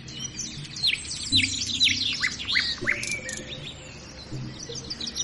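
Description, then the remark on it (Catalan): A peregrine falcon (Falco peregrinus), a bird of prey of the falcon family, calls with a rapid series of shrill, downward-slurred cries, clear and repeating over several seconds against a faint low background rumble. “El falcó pelegrí.”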